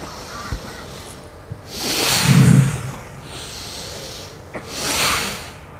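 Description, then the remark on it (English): Two forceful, hissing breaths of Bhastrika pranayama, a yoga breathing exercise, rush in and out through the nose, the first longer and heavier with a low rumble, the second shorter, separated by a quiet pause with no talking. “Итак, сначала мы подготавливаемся к Бхастрика Пранаяме.”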